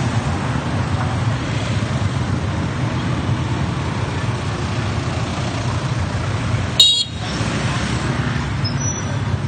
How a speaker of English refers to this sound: Yeah, there's a fair amount of scooters here or motorbikes. Good proportion of cars to motorbikes for, you know, a relatively developing country.